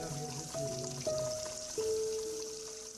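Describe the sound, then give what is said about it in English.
Coffee trickles and drips steadily into a cup or pot in a kitchen, a continuous liquid sound whose ringing tone steps upward as the vessel fills, over a soft background hiss. “I go to the kitchen where the cups rattle and the coffee drips”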